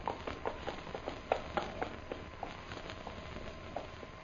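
A ridden horse approaches, its hooves clip-clopping in a steady, quick rhythm, fairly faint, with no voices over them.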